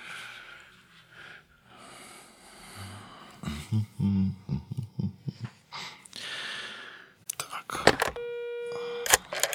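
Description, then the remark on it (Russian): A crackly, hissing phone line with breathy noises and low muffled voices, then sharp clicks and a steady telephone busy tone near the end. “Очень плохо телефон работает.”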